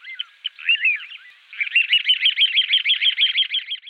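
A small songbird sings a bright, high-pitched song alone: a few scattered chirps, then a fast, steady run of repeated warbling notes, clear.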